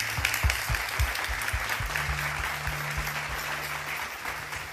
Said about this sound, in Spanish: Denle un aplauso fuerte a toda la gente que nos escucha y nos mira.